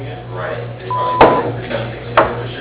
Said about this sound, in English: you've reached the number for Gordon Paving. We are unable to answer your call at this time, but please leave your name and telephone number after the beep, and we'll get back to you shortly. Thank you.